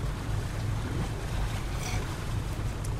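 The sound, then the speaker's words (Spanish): Steady low rumble of a boat on open water, a boat its owner lives on as his home, with wind buffeting and a wash of waves underneath, continuous and fairly loud with no voices. “¿Este es tu barco? ¿Mi barco? Este es mi Titanic.”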